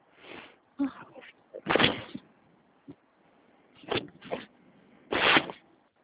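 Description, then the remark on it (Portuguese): Rummaging for a pen: a series of irregular rustles, clacks and scrapes as objects are shuffled around, with brief quiet gaps between the louder bursts. “É, deixa eu pegar uma caneta, só um minutinho, tá?”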